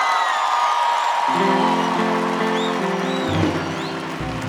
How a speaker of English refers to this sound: And this whole crew, they spend time away from their loved ones and family, so I want to give a round of applause to the best crew on the planet right here.